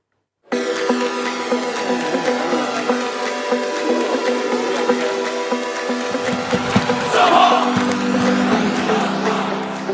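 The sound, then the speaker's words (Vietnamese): A dense, steady roar of about 30,000 football fans cheering for their team, Shanghai Shenhua, at a stadium in China on the opening day of the national football championship, with sustained tonal chanting or horns running through it and a louder surge of shouting toward the end. “30.000 cổ động viên đổ về sân vận động như những cơn sóng chiều xanh để cổ vũ cho đội bóng của họ Thượng Hải Thân Hoa.”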